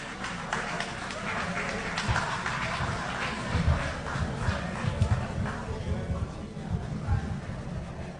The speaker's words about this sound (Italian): We welcome back for the second set. Let's put our hands together and give them a warm round of applause.